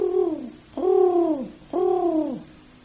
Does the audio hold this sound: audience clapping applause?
no